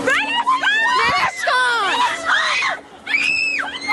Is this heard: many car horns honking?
no